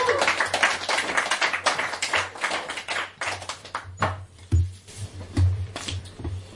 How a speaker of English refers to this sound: That's worth a round of applause on its own.